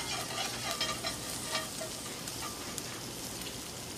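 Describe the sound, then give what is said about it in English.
Butter and herbs sizzle steadily in a hot pan, a continuous crackling hiss with occasional louder pops and a faint scraping stir, and no voices. “Butter and herbs sizzle in a pan.”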